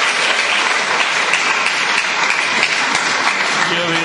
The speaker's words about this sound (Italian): Io vi ringrazio per l'applauso,